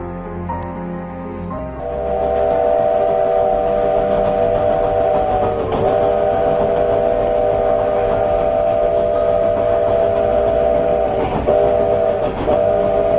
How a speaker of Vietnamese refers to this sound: Mơ hồ, tôi nghe một tiếng còi tàu, nếu như phát ra từ một đầu máy, thì đầu máy ấy ở rất xa. Đoàn tàu có lẽ kéo cả mấy chục toa, dùng mình chuyển động rồi lăn trên đường sắt.